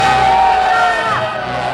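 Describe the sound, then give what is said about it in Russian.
A loud, dense wall of crowd noise with overlapping shouts and cheers of victory, steady throughout the short burst, with one voice rising above the din. “Когда он уже совсем отчаялся, раздались громкие крики.”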